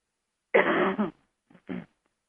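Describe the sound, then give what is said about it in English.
A loud cough and throat clearing, one long rough burst followed by a brief pause and two shorter hacking clears, with no talking. “Excuse me for a moment while I cough just a little bit more.”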